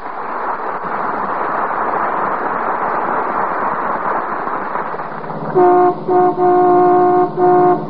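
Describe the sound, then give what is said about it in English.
A steady rumble of car engines and street traffic as the McGee family car, driven by Mrs. McGee of Fibber McGee and Molly, comes down 14th Street; then a loud horn honks repeatedly in short bursts near the end, blaring over the traffic noise. “That's the McGee family car coming down 14th Street.”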